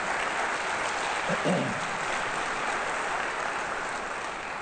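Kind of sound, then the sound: crowd, audience applauding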